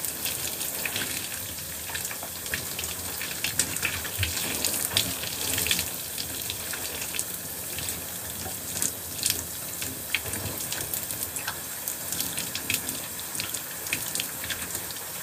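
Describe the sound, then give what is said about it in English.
Steady running water flows continuously with a broad hissing splash, punctuated by irregular sharper splatters as a washcloth is rinsed under the stream after rinsing skin. No one speaks. “I have to rinse skin first before I rinse off the cloth.”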